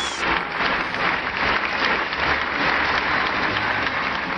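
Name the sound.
applause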